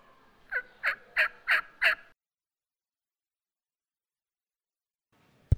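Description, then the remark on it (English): Wild turkeys gobbling, a rapid burst of about five loud, rattling gobble notes lasting two seconds, then silence and a brief sharp click at the end. “So, after those first couple years of rocket netting turkeys, capturing them, letting them loose in Vermont, the turkeys did great, which shouldn't surprise anyone.”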